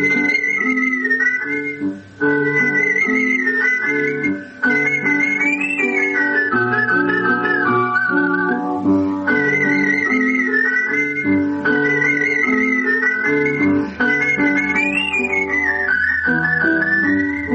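A bright whistled melody glides and trills over steady instrumental accompaniment, loud and continuous throughout with brief pauses between phrases; no one speaks.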